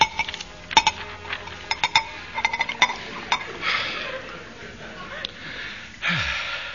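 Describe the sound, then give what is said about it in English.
A quick run of bright glassy clinks, a dozen or so taps at uneven intervals, followed by short hissing bursts of a glass of cream soda being poured, with faint breathy sniffs in between. “Oh, it's marvellous what a glass of cream soda can do for one.”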